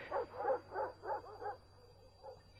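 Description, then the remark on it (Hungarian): Shaggy dogs barking as they run forward, in a quick, even run of about five sharp woofs, followed by a softer, fainter bark, with a thin steady whine in the background. “Lompos kutyák szaladtak elénk, és a patás közéjük vágta a kupecbotot.”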